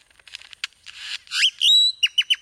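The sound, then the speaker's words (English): Great-tailed grackle calls: dry clicking rattles, then a loud rising whistle and a sustained piercing note, ending with three sharp, quick descending chirps. Clear, with no talking. “Whatever it looks like, a grackle's eye view of the world is likely a fuller picture than most of us can see.”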